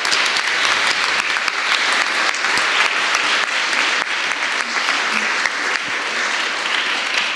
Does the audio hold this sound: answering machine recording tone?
no